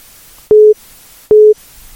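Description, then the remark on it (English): A telephone busy tone after an incoming call is cut off: two steady, identical beeps about a second apart, each lasting roughly a quarter second, loud and clear over faint line hiss, with no voices. “The incoming call has cut you off.”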